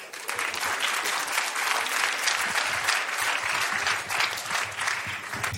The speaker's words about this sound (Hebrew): כפיים!